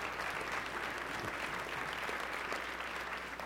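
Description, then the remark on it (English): A church audience breaks into steady applause after being told the facility is debt-free, many hands clapping at once in a dense, even wash of sound that holds at a consistent loudness throughout. “I'm waiting for an applause.”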